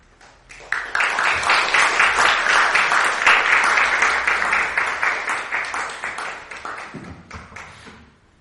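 A crowd at a Christian church gathering applauds steadily for several seconds to welcome a guest preacher for the second day's morning message, many hands clapping in a dense, sustained burst that swells quickly, holds, then thins out into a few scattered claps before stopping.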